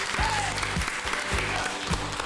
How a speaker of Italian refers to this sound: Allora, io chiaramente ascolto Radio Web dell'Istituto Comprensivo di Terranova Bracciolini, e qui potete fare l'applauso così che si sente uno spot.